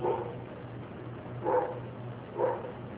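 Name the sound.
dog barking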